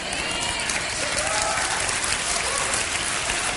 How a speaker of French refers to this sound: Écoute, je commence à être jaloux, ils n'applaudissent pas comme ça pour moi.